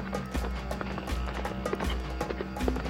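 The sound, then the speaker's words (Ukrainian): Horse hooves of a departing rider clip-clop in a steady, brisk rhythm at moderate loudness, set against a constant low rumbling background with no voices. “Дужий вітер знищив намет, сів на коня і подався ще вище в гори, до духа водоспадів.”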